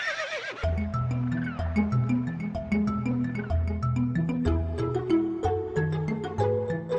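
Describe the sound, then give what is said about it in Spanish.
A horse rearing up on its hind legs gives one short, shrill whinny right at the start, quickly replaced by music with a steady, pulsing bass line and light percussion that continues to the end. “el diablo, el caballo de Liusbel, se levanta sobre sus patas traseras en ademán de triunfo”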